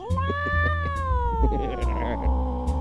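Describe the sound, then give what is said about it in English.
A single long, drawn-out cat meow, loud, its pitch sliding slowly downward over a few seconds, with a low background hum and a few faint clicks. “Here, kitty, kitty, kitty, kitty, kitty, kitty, kitty, kitty, kitty,”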